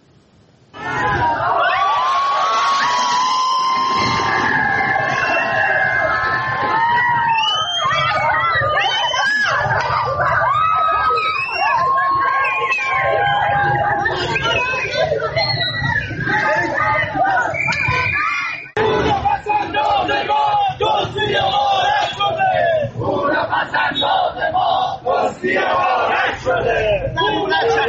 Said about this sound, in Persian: ابتدا ویدیویی ببینید از مالباختگان مؤسسه مالی کاسپیان که این هفته هم روبروی ساختمان بانک مرکزی در خیابان میرداماد تهران تجمع اعتراضی کردند که با دخالت پلیس به خشونت کشیده شد.